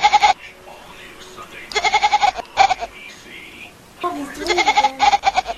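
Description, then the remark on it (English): A kitten lets out several loud, wavering, bleating meows that sound remarkably like a goat, coming in short bursts with pauses between, while a person speaks briefly in the background. “And now a kitten who sounds just like a goat.”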